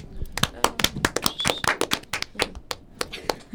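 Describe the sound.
Applause from a small group: sharp, uneven hand claps that come in a loose, scattered rhythm for several seconds, fairly loud, with a brief high tone or voice mixed in.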